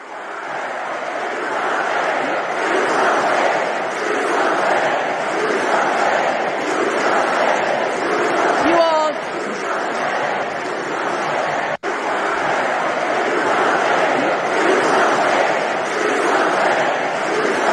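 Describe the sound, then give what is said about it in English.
A large crowd cheers and claps in a loud, sustained roar that stays steady for the whole stretch, with a brief cut near the end, like an audience at a rally. “Here's just a short clip of the lemmings, the paid lemmings, like trained seals clapping for their fish.”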